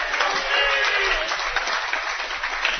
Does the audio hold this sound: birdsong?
no